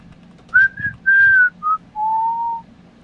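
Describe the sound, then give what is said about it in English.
A person whistles a short tune of five clear notes, a few quick ones followed by a long held low note, bright and fairly loud against a faint low background murmur. “We're playing Name That Tune now.”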